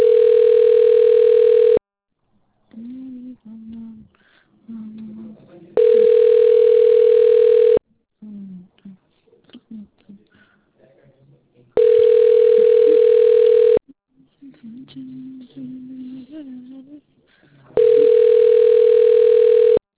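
A telephone ringback tone rings four times while Google Voice connects a call, each steady two-second burst separated by about four seconds, loud. Faint, indistinct voice-like sounds murmur in the gaps.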